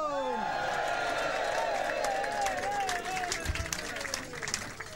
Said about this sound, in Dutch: Hier is hij dan. Recht uit de keuken van de Smitsen. Geeft hem een hartelijk applaus.